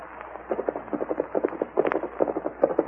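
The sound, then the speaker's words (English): Horse hooves clip-clopping in a quick, steady rhythm as the Lone Ranger and Tonto ride out on the plains, a continuous run of sharp hollow knocks at moderate volume, with no voices. “There's a man riding Tortoise Tonto.”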